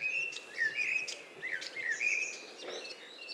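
A starling mimicking a blackbird's whistles, delivering several short fluting, warbling phrases in quick succession over a faint hiss of background chirps, clear with no talking.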